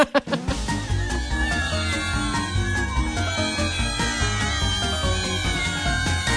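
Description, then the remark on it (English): A cat meows repeatedly in a short sound effect, with drawn-out, wavering cries layered over a loud, steady musical backing with a rhythmic low beat. “It's the perfect time for a cat story”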